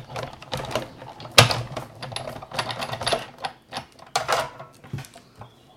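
A circle punch snaps through silver foil sticker sheets, cutting a dotted border pattern, crisp, with a series of irregular clacks and crinkly rustles over several seconds and one especially sharp punch near the start.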